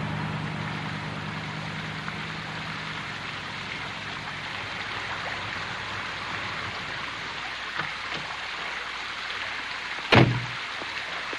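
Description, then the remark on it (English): The door of a pale white Cadillac convertible is opened in the looped driveway of a beachfront estate, a single sharp clunk near the end, heard over a steady, continuous rush of running water from a broad circular fountain, with no voices. “Ryder walks around to open Merritt's door.”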